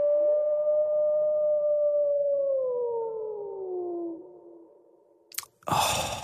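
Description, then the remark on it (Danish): A person imitates a wolf howl: one long, steady wail that slowly slides downward in pitch for about four seconds, then a short breathy burst of noise. “Så starter jeg med sådan en ulv.”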